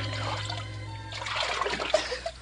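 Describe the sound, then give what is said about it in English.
Gentle river water trickles and laps, with a few soft splashes in the second half as a woman washes herself at the river, over a faint low hum and no voices. “Before very long, the daughter of Pharaoh came down to wash herself at the river, attended by her maidens.”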